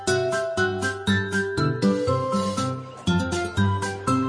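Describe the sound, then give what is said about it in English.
A page-turn chime signalling to turn the page in a read-along of the book Clifford at the Circus: a bright, tinkling jingle of about eight or nine bell-like notes struck at a steady pace, each one ringing on, with a clear melody and no voices. “When you hear this sound, it's time to turn the page.”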